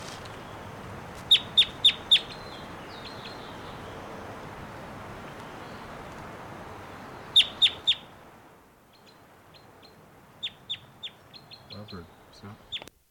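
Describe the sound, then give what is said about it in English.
A wild bird gives loud, sharp, high-pitched calls in quick bursts of about four notes, over a steady hiss of background noise, followed by softer, scattered chirps once the noise drops away. “Here's that wild one again, giving some really loud calls.”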